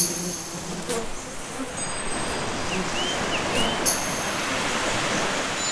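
A steady, rushing roar of waves breaking on a rock platform as night falls, dense and continuous with a couple of brief swells of spray, with no voices.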